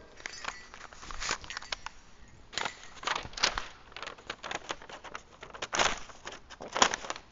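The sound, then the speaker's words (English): Paper crinkles and rustles as a scroll received as a Christmas morning gift is unrolled and handled, in irregular crackling bursts that swell and fade, with no talking. “I'm one of those people that throws the paper everywhere, just so you know. Ah, I've got a scroll.”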